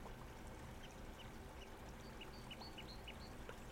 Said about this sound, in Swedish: Under bron så rinner en liten, liten bäck. Man hör vattnet så tydligt hur det forsar. Och det gör ett helt fantastiskt ljud. Jag älskar ljudet av vatten.